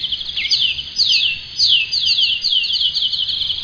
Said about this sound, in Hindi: Meeting में सारी चिड़िया खूब ऊंची आवाज में बोले जा रही थी।